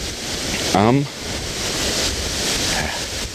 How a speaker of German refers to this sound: So, dass mein eigentlich präferierter H4N mit diesem Wind hier gar nicht klarkommt. Deswegen, es ist windig und es ist einigermaßen kühl und da bin ich wieder.